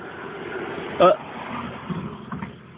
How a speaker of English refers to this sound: There's a van over there. It's driving towards...